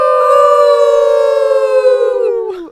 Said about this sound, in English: you like the wolf howl